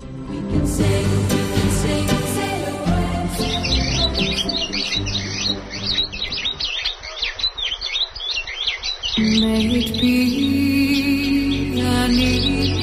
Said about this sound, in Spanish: El canto de los pájaros resulta musical, es casi una pieza, ¿no? Una composición, pero también es un modo de comunicarse de estos animales que habitan en esa zona, en el Parque Natural del Alto Tajo.